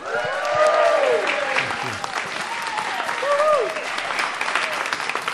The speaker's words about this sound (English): And as you can hear, we have a wonderful live audience here.